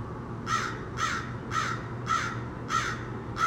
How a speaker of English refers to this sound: Well, I guess it could be better without that crow.